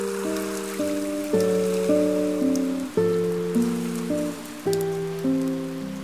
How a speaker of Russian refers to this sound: 23 октября 1900 года в Ялте с утра начал накрапывать мелкий нудный дождик.